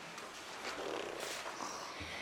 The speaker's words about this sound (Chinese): 半夜里，战雾外传来各种奇怪的声音，眼镜猴被吵得快抓狂了，一旁的小熊却完全没动静，只有打呼的声音没有停过。